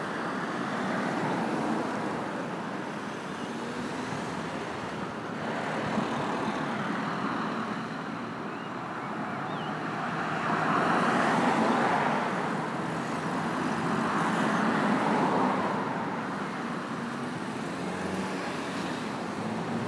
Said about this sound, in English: I can hear a bus somewhere. It's up a bit.